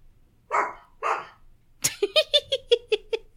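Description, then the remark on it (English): A dog in a house, barking after strong wind hits the house, gives two rough, breathy barks, pauses, then lets loose a quick, even run of about eight sharp, higher-pitched yaps. The barking is loud and there's no talking. “The wind just was like really crazy on this house and then just started barking.”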